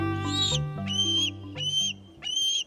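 juvenile bald eagle calling

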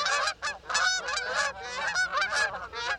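geese honking

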